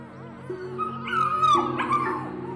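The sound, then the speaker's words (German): Several puppies in a straw-lined pen yip and whimper together in a busy, overlapping chorus of high, squeaky cries, moderately loud, rising in intensity midway through, as they jump up excitedly vying for attention. No one speaks. “Jetzt springen die kleinen Hunde an dir hoch und wetteifern aufgeregt um deine Aufmerksamkeit.”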